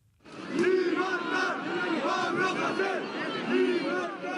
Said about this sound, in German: Mehrere hundert Demonstranten fordern Freiheit für den Rapper und ziehen durch die Straßen von Barcelona und anderen katalanischen Städten.